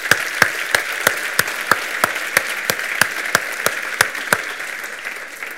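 An audience at a talk applauds a speaker steadily for about five seconds, a dense wash of clapping punctuated by sharp, evenly spaced louder claps that beat out a regular rhythm before the sound starts to thin.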